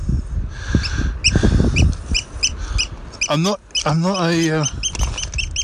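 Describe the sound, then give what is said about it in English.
A bird calls with a steady run of sharp, repeated chirps, followed by two longer, wavering, warbling cries, over faint outdoor background noise. “What's wrong with this bird?”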